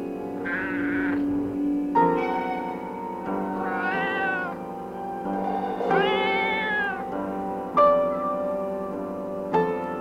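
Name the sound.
cat meowing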